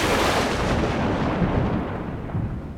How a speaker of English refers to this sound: Thunder cracks as white phosphorescent streaks of lightning draw blinding tears in the dark.